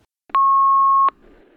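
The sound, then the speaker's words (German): A single steady electronic answering machine beep, following a company's out-of-hours greeting, holds one pure pitch for about three-quarters of a second, loud, then cuts off into faint line hiss. “Bitte hinterlassen Sie nach dem Signalton Ihren Namen und Ihre Telefonnummer.”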